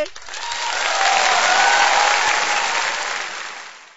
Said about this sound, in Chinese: 掌声鼓励！